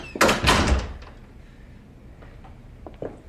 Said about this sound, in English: slips into his room and shuts the door.